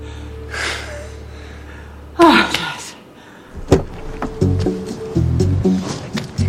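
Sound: door closing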